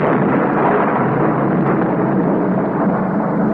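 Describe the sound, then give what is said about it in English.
A loud, continuous roll of thunder, a dense low rumble that holds steady for several seconds without a sharp crack. No voices are heard. “What's that? Thunder.”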